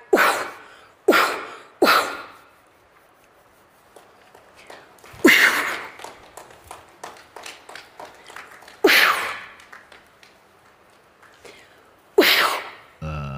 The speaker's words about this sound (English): How'd you like to have this lady sneeze on her head?